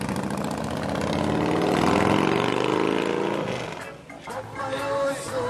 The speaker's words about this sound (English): Jahi backs his Harley out of the garage. Morgan follows on her purple Suzuki.